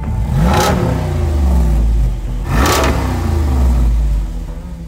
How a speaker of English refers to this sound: The regular Jeep is handful enough on the highway. This roided up 392, it's enough to pull the sunglasses right off your head. This is a muscle car engine in a Jeep.